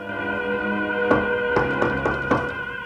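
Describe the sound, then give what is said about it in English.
Knocking on a badly stained double door marked 12A off a building landing: one sharp knock, a brief pause, then four quicker raps in an even rhythm, heard over a steady low humming drone with no voices. “She hesitates, then knocks.”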